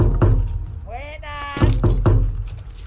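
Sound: door being opened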